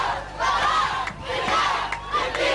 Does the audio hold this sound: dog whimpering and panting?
no